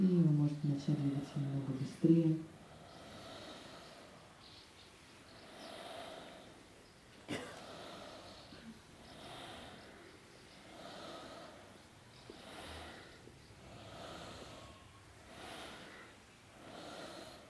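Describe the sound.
Slow, full breaths through the nose repeat in a steady rhythm during a guided breathing exercise, each inhale and exhale a soft, airy rush, with a brief louder voiced sound near the start.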